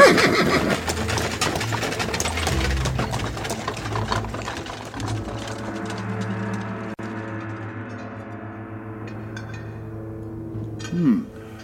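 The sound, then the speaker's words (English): A horse-drawn carriage sets off with a busy rattle of wheels and hooves that gradually eases, and a horse whinnies briefly near the end. No voices. “I would have thought you'd have developed the internal combustion engine by now, rather than being reliant on livestock.”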